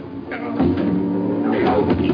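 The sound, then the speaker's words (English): Muffled crashing and thumping of furniture being thrown about, with a heavy knock about halfway through and another toward the end over a dense, rumbling clatter. “Seems to be throwing the furniture about.”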